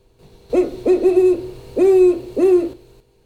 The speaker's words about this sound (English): And first, let's hear the sound of one of the owls you talk about in the book, Alice. It's online at the International Owl Center. Here's some sounds that she makes.